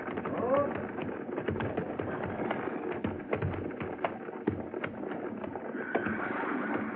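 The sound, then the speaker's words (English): The horses of a mounted patrol, ordered to halt, clip-clop in a dense, uneven patter on hard ground, steady throughout, amid a busy background of rustling and movement. “Dismount and unsaddle. Dry the horses.”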